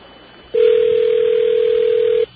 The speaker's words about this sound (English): And, that sounds like Bernie S.'s phone. Sounds like Bernie S.'s phone to me.